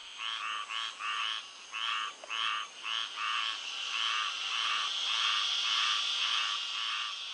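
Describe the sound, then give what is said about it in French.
Frogs near a watercourse croak at sunset in a steady chorus of rapid, pulsing calls, one burst following another at a regular rhythm, clear, with no voices present. “Également, à mesure que le soleil déclinait à l'horizon, le coassement des grenouilles se faisait entendre.”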